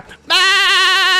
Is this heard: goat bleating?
yes